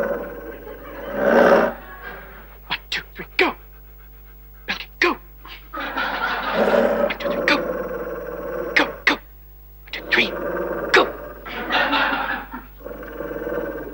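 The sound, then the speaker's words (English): A dog growls and snarls while chasing someone around a store, in excited, intermittent bursts broken by sharp clicks and scuffles, fairly loud, with brief quiet gaps between the rough outbursts. “You let the dog chase you around the store while I make the phone call.”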